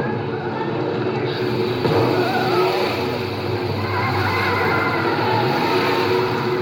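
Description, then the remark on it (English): A car engine rumbles steadily at night, a dense broad roar with some revving as the vehicle drives off, holding fairly loud throughout without fading out. “But miraculously, he drives off into the night.”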